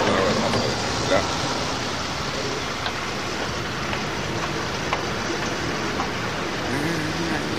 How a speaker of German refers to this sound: Endlich eine Tankstelle. So, dann werde ich unseren Schlitten mal voll tanken.